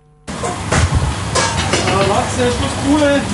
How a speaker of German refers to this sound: Es brutzelt und dampft in der Küche vom Goldigen Kreuz zu Frauenfeld. In wenigen Minuten stehen die ersten Restaurantgäste für den Mittag vor der Tür. Das Küchenpersonal ist voll im Schuss